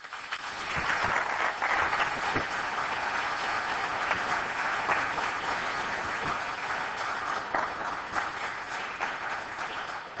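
An audience at Perimeter Institute applauds steadily for about ten seconds to welcome a speaker, a dense, even wash of many hands clapping at constant loudness with no voices rising above it.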